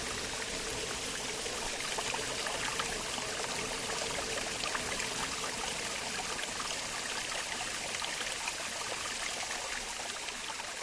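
Water rushes and splashes steadily at a watermill rebuilt in 1981, a dense, continuous hiss of flowing water with no voices and no pauses from start to finish.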